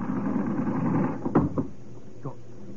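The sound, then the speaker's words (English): An upper train berth is pulled down: a steady low rumble gives way to a sharp wooden clunk, a second knock, then a softer thump as it settles. “Pull down the berth. What? The berth. The upper berth. Pull it down.”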